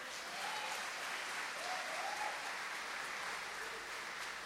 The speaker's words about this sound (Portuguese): Amém, aplauda o Senhor.